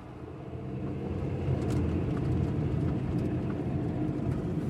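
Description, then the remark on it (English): A truck engine rumbles steadily, a deep, continuous low drone that swells slightly and holds as the truck drives up an on-ramp and pulls over to the side of the road, with no voices. “We drove up and Mark pulled to the side.”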